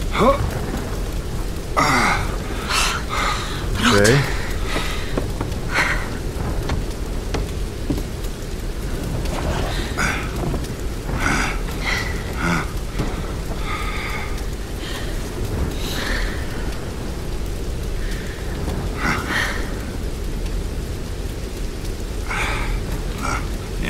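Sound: rain falling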